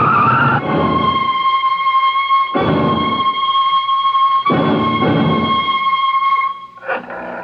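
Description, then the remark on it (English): A truck skids with a long, loud, high-pitched tire screech lasting several seconds, broken by repeated surges of heavy rumbling, then cutting off abruptly near the end. “watch out for the truck!”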